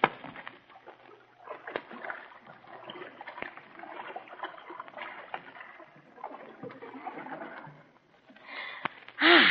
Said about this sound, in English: Wait, I'm thirsty. First, I think I'll drop down on the bank and have a nice, long, cool drink of water.